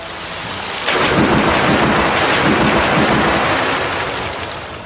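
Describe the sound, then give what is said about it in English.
A loud storm effect from the video game attack Storm Rush, used by Faux Taroisen against Snowmano, bursts in after a moment of hiss: heavy rumbling thunder and dense pouring rain that roar steadily, then ease slightly at the end. No voices. “Faux Taroisen used Storm Rush.”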